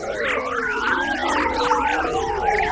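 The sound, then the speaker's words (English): Sonified data from the European Space Agency's Cluster mission: high-energy solar wind particles striking Earth's foreshock, the outside of its magnetic field, during a solar storm. An eerie, continuous wash of overlapping warbling whistles that swoop up and down in pitch, like whale song, steady in loudness with no voices. “Here's the sound made when the sun's high-energy solar wind particles hit the foreshock or outside of Earth's magnetic field during a solar storm.”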